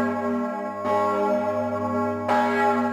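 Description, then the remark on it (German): A large church bell tolls with rich, sustained harmonic overtones, struck again at about one-second intervals so each new clang rings over the lingering hum of the previous one. No voices are present. “Und dann könnte es gelingen, manche historische Glocke rechtzeitig vor gröberen Schäden zu bewahren.”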